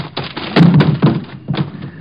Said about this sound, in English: You knocked him cold. Nice tackle